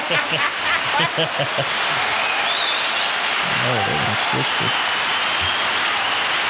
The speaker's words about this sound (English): Damn, that's a long clap for advice, huh?